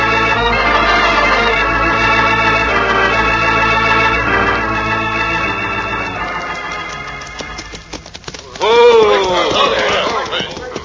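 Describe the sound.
Music swells at first, then a quick run of hoofbeats clatters past, and a man's voice breaks in near the end.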